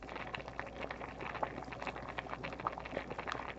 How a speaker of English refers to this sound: So this is the pasta going into the boiling water. And we'll boil that for about 8 minutes or so.